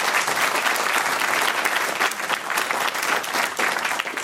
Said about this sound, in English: Yeah, go ahead and applaud.